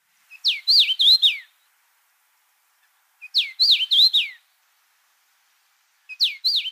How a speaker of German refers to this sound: Es ist der Karmin-Gimpel. Und damit hören wir uns nochmal das Nice to Meet You an.